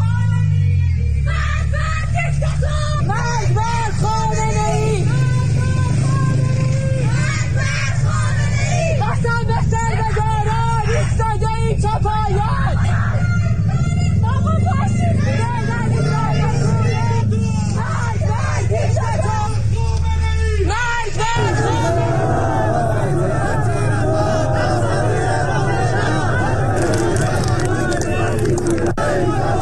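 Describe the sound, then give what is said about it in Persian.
A protest crowd marching in Isfahan, Iran, amid a heavy presence of government forces, chants anti-government slogans in loud, rhythmic bursts, a dense wall of voices with traffic rumble underneath. Partway through the chanting shifts into a rougher, noisier roar of many voices. “بنابر ویدیوهای دریافتی، گروهی از مردم اصفهان با وجود حضور گسترده نیروهای حکومتی راهپیمایی و تظاهرات کرده شعارهای ضد حکومتی سر زدند.”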